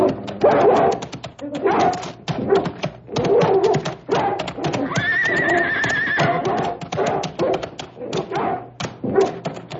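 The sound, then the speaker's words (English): A dog barks and snarls ferociously in rapid, continuous bursts, sounding like a frenzied attack, with a shrill squealing cry rising in the middle of the commotion. “Please, please turn the dog loose. Get him!”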